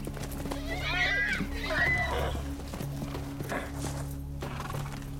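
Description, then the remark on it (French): Wild horses roaming freely on an isolated mountain summit in the Rocky Mountains move about with soft hoof clatter while one lets out a wavering whinny early on, all set against a steady low hum in the background. “Un territoire isolé où des chevaux sauvages s'ébattent en toute liberté.”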